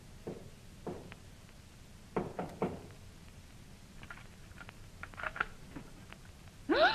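Two slow, muffled knocks on a door, then three quick ones in a tight burst, followed by scattered light taps and clicks and a short louder rush at the very end.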